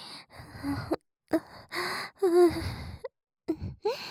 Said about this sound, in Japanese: お兄さんの荒い吐息に触れて私も高ぶりたいんです。そう、生温かい吐息に触れて気持ちいい。